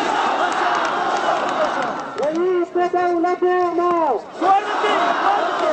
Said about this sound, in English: When Karzai and the ministers from his interim cabinet finally arrive via Russian-made helicopters, thousands of Hazara voices offer up a deafening welcome.